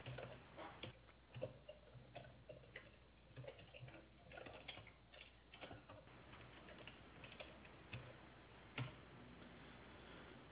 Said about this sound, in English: Yeah, I'm typing it out.